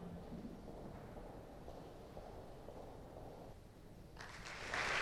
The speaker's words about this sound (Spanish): Recibe el aplauso. Otro premio extraordinario.